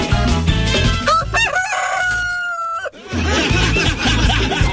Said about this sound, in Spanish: Oye, volvió el gallo. Maravilloso, gracias. Sabes que se me había escapado el gallo. Pero bueno, ahora vuelve a la granja.